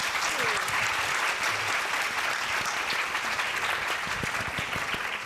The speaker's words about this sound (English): Well, thank you, ladies, very much for the amazing insights that you have and the expertise that you have today. Let's give them a round of applause right now.